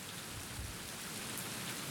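Water splashes steadily against the paddles of a mill wheel turning outside a working mill, a soft, continuous hiss and patter with no clear beat or pauses and no voices.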